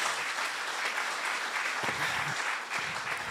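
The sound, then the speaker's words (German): Steady audience applause, a dense crackle of many hands clapping at an even loudness for a few seconds, with a faint voice briefly audible underneath near the end. “Das sagt sich jetzt alles ganz einfach, kriegt man immer Applaus für, weiß ich auch.”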